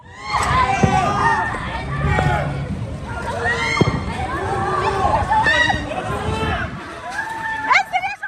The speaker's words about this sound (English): Videos verified by the Associated Press showed families rushing out, throwing belongings from balconies, and shouting to one another in panic.